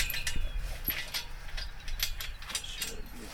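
Metallic clanking and ratcheting of a cemetery gate being locked up, with sharp irregular clicks and scrapes over a low rumble and a soft hiss of light rain falling.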